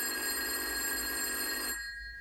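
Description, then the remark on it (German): A telephone rings at the Martinshof late at night in one sustained, bright electronic burst with a buzzing, harmonic tone. It lasts under two seconds and then cuts off abruptly, leaving quiet. No one speaks. “Ach so, es klingelt ja auf dem Martinshof.”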